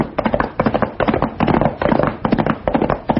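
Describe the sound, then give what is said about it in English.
A rapid barrage of gunshots from a gang shooting at the Charlton house: dozens of sharp overlapping cracks popping in uneven clusters for the full three seconds, loud and unbroken, with no voices. “Sounds like shooting.”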